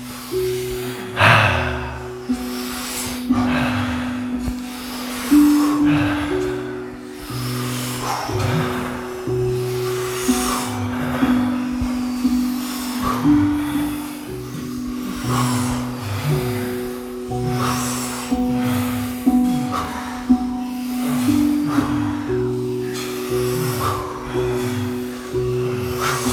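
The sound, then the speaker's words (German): Rapid, forceful breaths repeat in quick bursts over a steady sustained musical drone during a guided breathing exercise, the breathing fairly loud throughout with no talking. “Und wenn du magst, kannst du wieder mit dieser Fröhlichkeit weiter und schneller atmen.”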